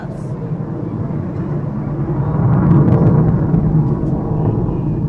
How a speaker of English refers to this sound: I should note here that we didn't adjust the volume on that jet you're hearing. It's most likely a growler. The Navy has been using these jets since 2008 and plans to increase training flights over the Olympic Peninsula.